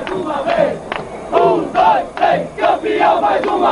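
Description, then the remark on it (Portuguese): A loud crowd of football fans chants and shouts together in rhythmic, surging bursts, many voices rising and falling in a steady celebratory pattern with no pauses. The fans are celebrating a São Paulo state (Paulista) championship with flags, fireworks, lots of draft beer and taunting shouts at rival fans and teams. “Torcedor que nos anos 80 foi 5 vezes campeão paulista, faz a sua festa com bandeiras, fogos, muito chope e gritos de provocação aos torcedores e times rivais.”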